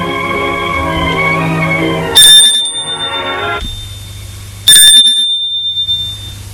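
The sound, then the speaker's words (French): A doorbell rings twice, each bright metallic ring sounding clearly and then slowly fading, a few seconds apart. A soft tonal background hum plays before the first ring. “Il a entendu le bruit de la sonnette.”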